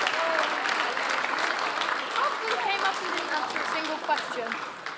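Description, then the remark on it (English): Sustained applause from a sizable audience at a camp gathering, a dense, steady patter of many hands clapping for about five seconds, with faint voices mixed underneath. “Okay, well, give them a big clap.”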